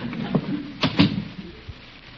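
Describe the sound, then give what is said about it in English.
A house door opens and shuts on Halloween as someone goes inside to answer it: two quick wooden clunks, a thump following a moment later, over a soft steady hiss with no voices. “You get inside and answer the door.”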